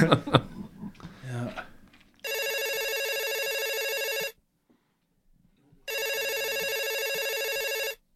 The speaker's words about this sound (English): The hell? What's this? My phone's going off here.